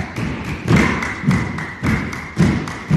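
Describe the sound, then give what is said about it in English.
A group of 12 dancers in flowing dresses clapping and stamping in a healing rhythmic dance called The Sacrifice, a steady, driving rhythm with heavy low thuds of feet landing together about twice a second and sharper claps layered on top. No voices. “As you listen to the clapping and stamping, imagine a group of 12 dancers in flowing dresses performing a healing rhythmic dance she called The Sacrifice.”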